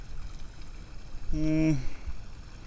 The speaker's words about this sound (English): See, we can get next to the little creek now. Look down in there.